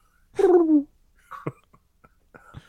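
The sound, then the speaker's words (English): A person voices one loud, throaty, downward-sliding coo in imitation of a pigeon, followed by a few faint clicks and brief soft vocal sounds. “That's a big-ass pigeon.”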